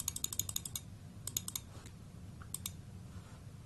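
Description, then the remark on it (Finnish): A button in a program is pressed repeatedly, increasing a counter by one with each press, producing crisp clicks in quick bursts: a rapid run of about eight, a pause, then shorter groups of three or four, over a low background hum. “Ja nyt periaatteessa, tässä nyt jäi siinä tarpomaan, nyt periaatteessa meillä on ohjelma, että jos kaikki meni putkeen, että mä painan tätä, niin se kasvaa yhdellä joka painasulla.”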